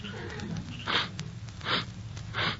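Three short, breathy sniffs at a steady pace, moderately loud, as someone draws quick breaths through the nose to check for a smell of smoke, over a faint low background hum.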